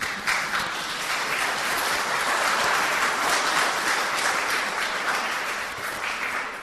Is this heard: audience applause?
yes